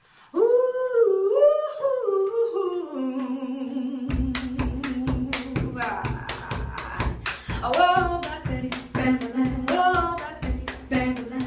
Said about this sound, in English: And we should explain to listeners that you are pounding on the shower wall and clapping as the two of you are singing. Oh, good Lord. A shower makes a great kick drum. It does make a good kick drum.